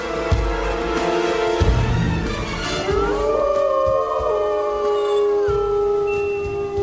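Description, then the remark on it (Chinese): A wolf pack howls in chorus, several long rising and falling wails overlapping and sustained throughout, loud with a rough low rumble underneath; no one speaks. “这些狼群的叫声把巴尔迪奥吓得奔跑了起来，情急之下他爬上了大树”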